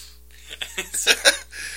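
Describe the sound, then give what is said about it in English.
A few quick, breathy sniffles through the nose in close succession, short hissy intakes that grow a little stronger toward the end, with no talking. “was that sniffle subconscious or intentional?”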